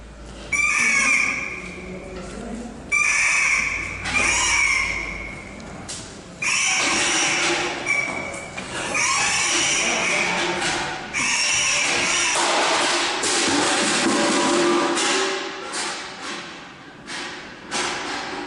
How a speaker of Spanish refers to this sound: Y también veremos si se mojan o no las gaviotas que oímos sonar ahora en este audio en el que los colamos de Barre.